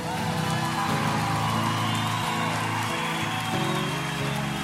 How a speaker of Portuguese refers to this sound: Pode aplaudir a graça de Deus.